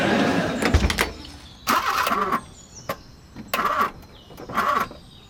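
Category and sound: vehicle, car engine cranking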